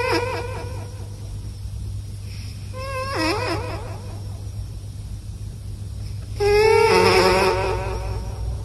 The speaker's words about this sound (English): But what if you took a snoring cat and recorded it with an echo mic? How do you suppose that would sound?